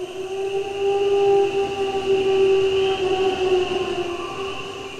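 Wolves howling, a chorus of long, steady tones that hold their pitch for the full stretch, layered and overlapping with a faint breathy background and no voices.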